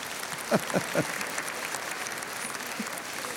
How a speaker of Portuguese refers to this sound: Nossa, mas que menino bonzinho esse aqui, ele merece uma salva de palmas.